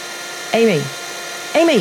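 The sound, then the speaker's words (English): A Hoover vacuum cleaner drones steadily throughout at a moderate level, being used to vacuum up a large spider in a bedroom, with two short voiced calls rising over the motor noise. “Oh, sorry, I didn't hear you with the Hoover on.”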